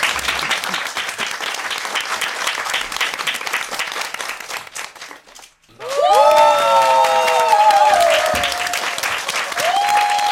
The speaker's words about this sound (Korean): 자, 하석배 교수님께 박수로 청해 듣겠습니다.